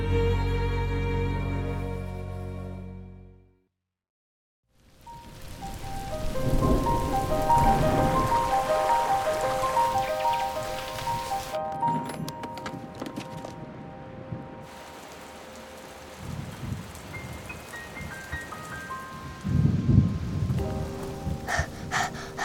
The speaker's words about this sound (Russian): Но куда? Туда, где переждем дождь.